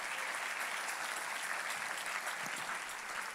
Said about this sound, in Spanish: Si ese es el aplauso, déselo más fuerte al Señor.